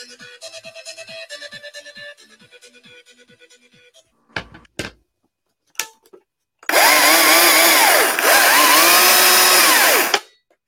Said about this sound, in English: Yeah, baby. Chainsaw carving, my friends.